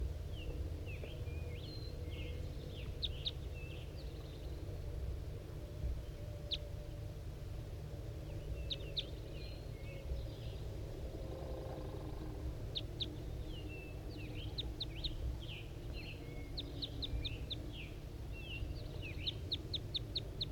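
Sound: male wild bird calling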